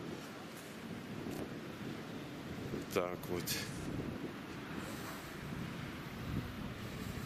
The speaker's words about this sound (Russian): Давайте сейчас, тут ветрено у меня, на шлепке нет, ну давайте немножко пусть пошумит.